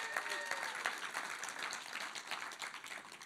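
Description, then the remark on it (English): An audience applauds steadily, many hands clapping in a dense, crackling wash that holds at an even, fairly loud level for a few seconds. “Let's give a round of applause to this guy right here.”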